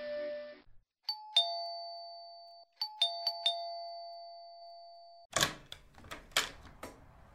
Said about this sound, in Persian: در خانه شیشته بودم و به سقف خانه خیره شده بودم. هیچ کاری برای انجام دادن نبود تا اینکه زنگ در و صدا در آمد.